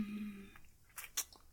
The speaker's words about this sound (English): Sucking. And slurping.